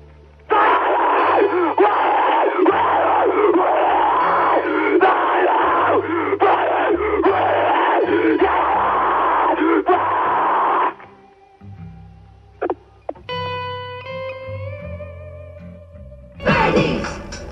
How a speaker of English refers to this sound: The lyrics are all screaming, and screaming is a really great thing. It's a lot of fun to listen to.